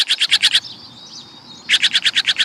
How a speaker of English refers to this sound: When you hear a raucous call and see a bold flash of blue swoop to your bird feeder, you'll know a jay has arrived, and all the little birds dart for cover.